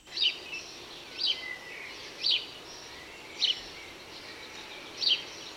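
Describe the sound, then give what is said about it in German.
A house sparrow chirps five times at a steady, evenly spaced rhythm, each call short and bright, standing out against a soft background hiss with no voices. “Das Chimpen der Spatzen kommt euch bestimmt sehr bekannt vor.”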